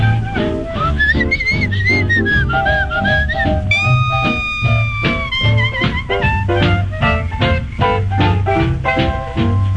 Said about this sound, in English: I found out, I know it's true, what a whistle does more for you. …, yeah.